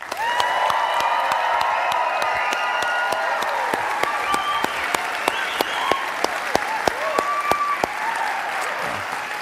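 audience applauding and cheering

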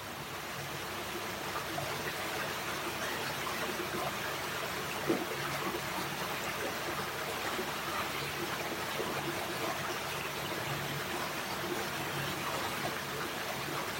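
flowing stream water

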